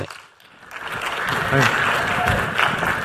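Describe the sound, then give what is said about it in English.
An audience at South by Southwest applauds to welcome a speaker who will talk about his book Digital Leaders Are Made Not Born, a dense steady patter of many hands clapping that swells after a quiet start and holds at a strong level, with a brief voice heard faintly through it. “Big round of applause.”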